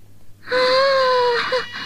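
A hungry stomach grumbling, rendered as a loud, drawn-out whining tone that slowly sags in pitch for about a second, then a brief second squeak, with no talking.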